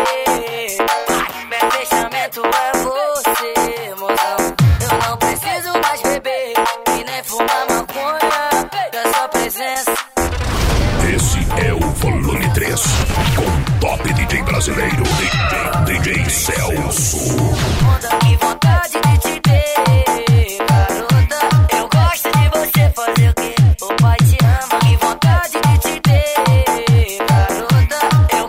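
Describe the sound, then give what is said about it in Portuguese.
Loud, hard-hitting electronic dance music played by a DJ, with heavy booming bass, a dense mid-section build, then pounding rhythmic bass hits returning strongly toward the end. “Tá só começando então, vamos lá, vamos acelerando que o grave é forte, bate duro, bate colocado.”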